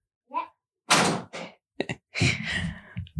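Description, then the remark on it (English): A door being pushed shut: a brief squeak, then a burst of rattling and clunking as it swings, and a few sharp thuds as it latches, with no talking. “Shut the door.”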